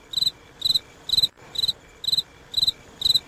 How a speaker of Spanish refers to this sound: Sí, son los grillos.